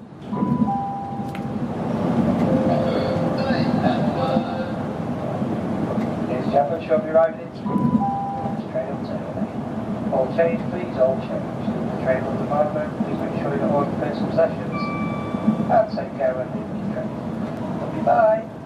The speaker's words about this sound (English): There were a few bing bongs to disguise the actual destination of the train so as not to make it too clear who the fellow is and get him fired or anything.